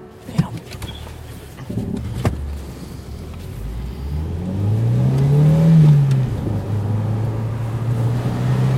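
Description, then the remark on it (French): A car engine turns over with a few clunks as a man in the driver's seat starts it, then settles into a low hum that rises in pitch as the car revs and pulls away, staying steady to the end. “donc le mec il s'est installé côté conducteur et il s'apprête à partir. Et il part même, il démarre, j'ai l'impression.”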